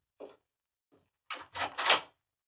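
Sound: door opening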